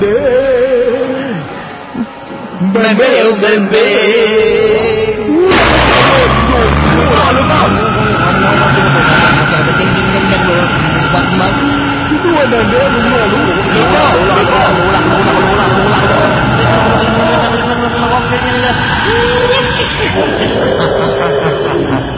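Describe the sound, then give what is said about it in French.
A violent rushing wind surges in abruptly after a few quieter seconds, then roars on loud and steady to the end, with a faint hum of voices beneath it. “Je vais sortir de mon corps sous la forme d'un vent violent, n'ayez pas peur.”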